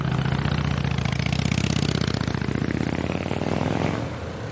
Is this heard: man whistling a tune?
no